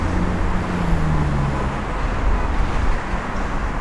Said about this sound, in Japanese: 車の音がうるさいからちょっと聞きにくいかもしれませんね。